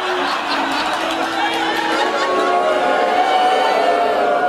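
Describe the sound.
A large crowd holds a long, low, drawn-out chant of "cruise" that sounds like booing, a steady loud roar of many voices sustained for the whole stretch.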